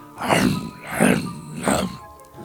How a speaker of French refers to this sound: De sa grosse tête en pierre, il ouvre sa grande bouche en pierre avec ses dents en pierre. Et de son bras, il engouffre une poignée de pierre qu'il mâche comme du pop-corn.